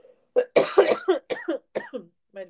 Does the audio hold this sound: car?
no